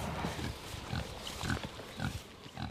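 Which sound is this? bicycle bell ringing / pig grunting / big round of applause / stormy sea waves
pig grunting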